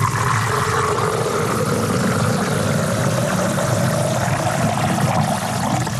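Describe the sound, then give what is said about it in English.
A drink is poured into a glass in one continuous, fairly loud stream of splashing liquid lasting several seconds. Its tone slowly rises as the glass fills, with no talking. “Let me pour that puppy here.”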